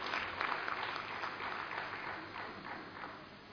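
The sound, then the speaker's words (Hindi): An audience claps steadily, a dense wash of many hands applauding for several seconds, fairly even in loudness and tapering slightly toward the end, applauding a woman being honoured. “बहुत जोरदार एक बार तालियां हो जाए।”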